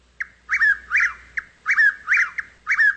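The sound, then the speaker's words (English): A Chuck-will's-widow, a large brown bird of the nightjar family, sings its rolling three-part night song twice in quick succession in moonlit pine woods, a short soft opening note followed by two loud whistled syllables, clear with no other sounds. “The fragrance of wild azaleas, moonlight in the pines, and all through the woods, the merry night song. Chuck Wills' Widow, Chuck Wills' Widow, Chuck Wills' Widow.”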